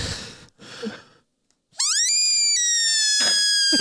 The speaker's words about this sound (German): Ist das vielleicht eine Hundepfeife? Oh Gott, ja. Ja. Jetzt hat man es gehört.